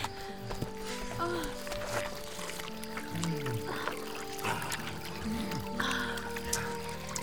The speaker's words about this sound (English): Sire, there's a trickle of water coming down the rock. We shall drink of it while we may.